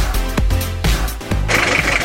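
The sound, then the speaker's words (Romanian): A classic engine starts up in Bistrița: a deep, uneven rumble punctuated by three sharp bursts, then it catches and swells into a steady, louder roar with a gritty hiss on top. “Sunetul motoarelor clasice îi fascinează mai nou pe tot mai mulți tineri din Bistrița.”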